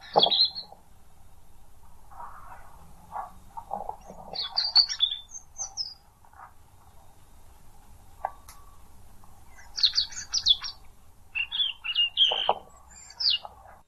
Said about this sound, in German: Ja, dann einmal kurz leiser, hören wir uns einmal das Rotkehlchen an.